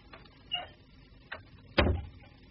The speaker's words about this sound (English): Please shut the door